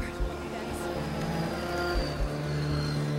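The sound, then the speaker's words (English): Steady city street traffic beside a city sidewalk, with a continuous engine drone from vehicles, a broad wash of road noise, and a few low thumps, moderately loud throughout. “Now, on a city sidewalk, Danny walks alone, steadily moving his cane side to side.”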